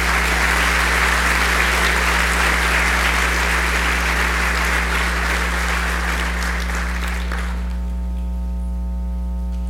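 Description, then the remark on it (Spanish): A crowd applauds steadily with dense, crackling clapping for about eight seconds, then it fades out, leaving a low electrical hum. “Y por eso les quiero agradecer y darles también un fuerte aplauso por estar presentes y aceptar esta invitación.”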